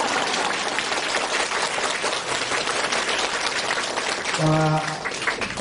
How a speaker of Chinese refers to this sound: 台长把大家都当朋友一样，这么远的路啊来看望大家，所以啊大家鼓鼓掌，我觉得是很正常。